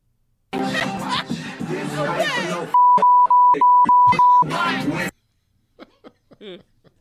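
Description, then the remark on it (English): A rapid run of loud censor bleeps, five or six steady tones in quick succession, cuts over a voice singing along amid crowd chatter, followed by a few faint sounds. “You got so many beeps in there. Sounds like Morse code.”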